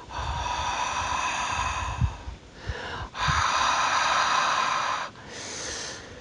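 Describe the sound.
A voice imitates the sea with long, breathy shushing hisses that swell and break off three times, like waves washing in and pulling back, with no words spoken.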